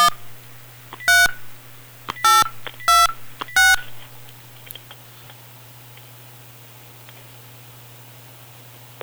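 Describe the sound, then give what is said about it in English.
Four short, loud touch-tone bursts as a phone number is dialed at a radio station to call a prize-draw winner, spaced unevenly over a steady low hum and faint background hiss, then the line settles into quiet. “Let's crank up the phone here again on WWGH Radio.”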